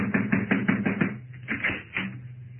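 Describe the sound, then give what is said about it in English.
A rapid run of sharp knocks on a door, roughly eight in quick succession, followed by a few more spaced raps over a steady low hum. “I'll need you to knock on the door”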